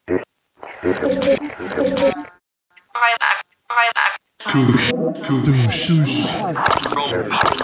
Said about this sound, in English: Let's see if we add echo.